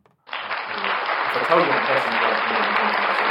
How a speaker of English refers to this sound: The applause goes on for ages, and you probably didn't hear a word you just said because it goes on for that long. And we need to get headphones, by the way, because we're just pressing the soundboard.